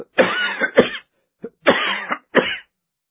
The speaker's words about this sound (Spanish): El polvo me hacía toser tremendamente. Me cubrí hasta los ojos.